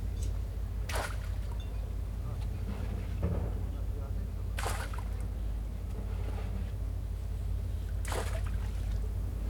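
Water laps steadily around moored boats on a slightly misty morning, with a low constant rumble and a brighter slap or knock against the hulls roughly every few seconds.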